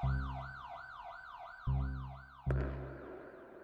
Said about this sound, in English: A cop car rolls by the alley entrance just as I go down, and they don't see me.